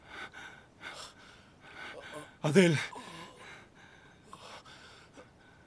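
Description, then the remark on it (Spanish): A sharp, loud gasp for air from a person coming to, followed by softer ragged breaths, with people speaking quietly. “Ya está respirando.”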